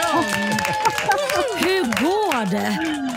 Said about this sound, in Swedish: En liten applåd